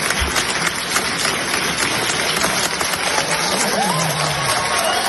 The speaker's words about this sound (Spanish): Fue sin duda el protagonista de su acto de graduación en el que cuando salió a recoger su diploma pues recibió una ovación totalmente merecida.